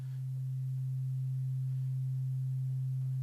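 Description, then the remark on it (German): A pure, low-pitched sine wave tone hums on its own as its amplitude is changed, swelling slightly at the start and then holding a fairly even loudness throughout, with no voices or other sounds. “Und wir können aber an dieser Sinuswelle ein paar Sachen verändern. Wir können zum einen die Amplitude verändern.”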